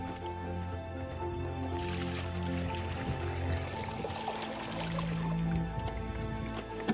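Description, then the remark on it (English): Water drawn from a well by a young girl pours steadily into a bucket for a few seconds, a splashy, gurgling rush that tapers into trickles and drips, with a faint background hum throughout. “Go ahead and pour it in the bucket”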